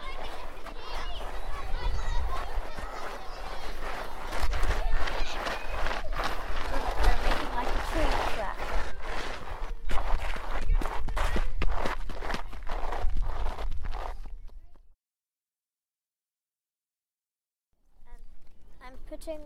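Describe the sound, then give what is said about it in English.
Feet shuffle and scrape across loose stones in a steady, gritty crunching with dense clicks of pebbles, loud for about fifteen seconds, then silence before the crunching resumes briefly. “shuffling the stones.”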